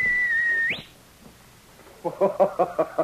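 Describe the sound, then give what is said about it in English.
Sergeant Preston, a Mountie, whistles for his dog King: a sharp, loud human whistle holds one steady high note, then flicks upward at the end. After a short pause, a quick run of rhythmic bursts follows. “Even as Sergeant Preston whistled for King, the sharp whistle that had always been a signal between the two of them, the Mountie wondered and hoped.”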